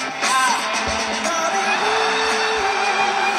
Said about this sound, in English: Because pretty soon... This place will be full again. Until then, cue the crowd noise.